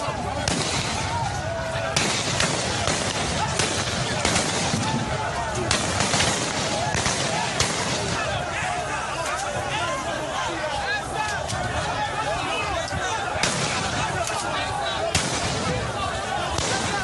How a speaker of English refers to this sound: Sounds of gunshots as the protesters came under fire last night. It was unclear who opened fire at the Lekki Lagos toll plaza.